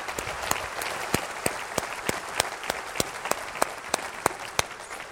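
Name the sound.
audience hand clapping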